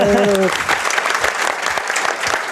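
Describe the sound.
A crowd claps steadily in dense, continuous applause, loud and close, with a brief voice at the very start before the clapping fills the rest.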